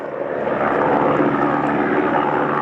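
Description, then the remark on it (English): A water bombing helicopter fighting a bushfire near St Helens on Tasmania's east coast, Australia, roars steadily overhead, its loud engine and rotor noise forming a dense, continuous drone with no voices. “Water bombing helicopters have been working throughout the day near St Helens on Tasmania's east coast.”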